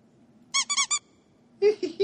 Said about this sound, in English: play the squeaky one again